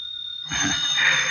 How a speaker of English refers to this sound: Well, seems to be a phone ringing in the other room. Oh. Oh, yes, there is.